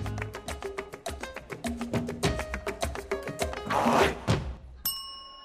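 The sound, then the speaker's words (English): An upbeat dance-pop song plays loud, driven by a quick, steady beat with bright synth and vocal layers, then cuts off into a single ringing chime. “It's the ….”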